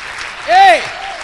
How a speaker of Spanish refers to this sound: Dale un fuerte aplauso a ese Dios poderoso.